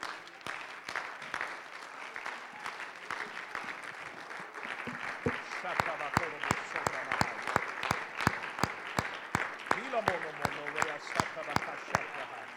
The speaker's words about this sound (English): Would you give the Lord another hand clap of praise today?